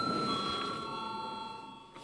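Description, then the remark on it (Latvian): A parliamentary voting bell rings continuously before a vote on electing a deputy to the Education, Culture and Science Committee, a bright sustained metallic tone at moderate volume with a faint hum beneath and no speech. “Lūdzu zvanu.”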